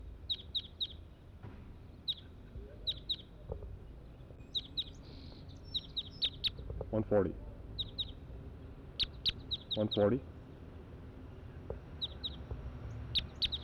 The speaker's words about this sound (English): So recording, it's about 7:20 now, and there is a flock of about 7 or 8 or even more wild crossbills here up in the treetops above where we have the net set up.